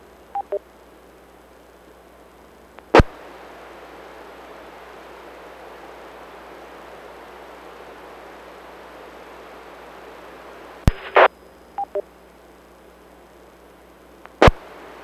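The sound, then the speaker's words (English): Steady radio static hisses throughout an open amateur radio channel as station AE9TC is called, a signal with no modulation and no voice, broken by a few sharp clicks and brief short beeps near the start and end. “I'm getting something, but no modulation.”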